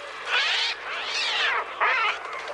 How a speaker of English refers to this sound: Ironically, Alfred Hitchcock didn't use any birds for the soundscape of his classic horror film, The Birds. Instead, the sound of those murderous seagulls was made using an early synthesizer called the Trautonium.